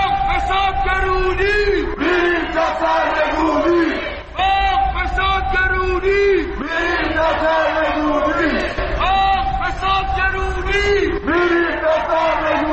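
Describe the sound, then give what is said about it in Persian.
A large protest crowd chants slogans calling for the government's overthrow in unison, loud and rhythmic, with repeated shouted phrases rising and falling over a continuous roar of many voices. “و البته خلاقیت در ساخت شعار کارش به اونجا رسیده که در اعتراضات دیشب توی فریادهای مردم نتیجه فقر و فسادی که کشور رو در بر گرفته چیزی جز سرنگونی نبود.”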